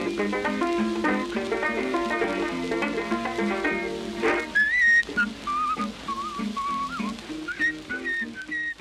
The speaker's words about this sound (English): I said, "I'll play it if you whistle it." He said, "Well, I'll whistle it." I said, "Well, whistle it then."